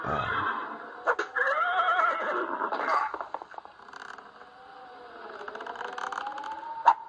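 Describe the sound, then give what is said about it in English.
A horse in a video game whinnies loudly and at length, its shrill, wavering cry rising and falling over several seconds, with faint scraping and clattering noises underneath. No one speaks. “He punches the horses down first, and then...”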